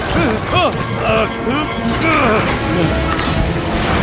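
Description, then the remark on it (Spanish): A sailboat crashes down into water with Olaf aboard, a loud, sustained rush of churning noise lasting several seconds, while voices shout and cry out over the commotion. “El velero cae al agua con Olaf.”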